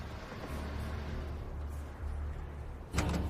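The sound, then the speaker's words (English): Van doors are worked over a low, steady rumble as people climb out of a van parked by a loading dock, ending in a sharp, solid slam near the close. No voices. “They climb out of the van, and the plastic strips hanging above the loading bay door flap in the wind.”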